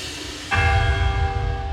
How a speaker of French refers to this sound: Le premier coup de cloche brise le silence glacé.